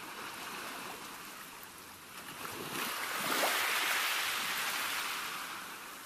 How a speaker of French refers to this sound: On entendait le bruit relaxant des vagues.